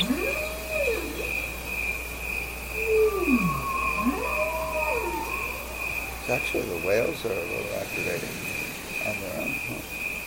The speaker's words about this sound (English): Even the crickets are a little activated.